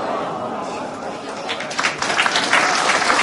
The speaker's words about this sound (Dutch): Ja, waarom ik nou applaus krijg? Ja, dat was wat.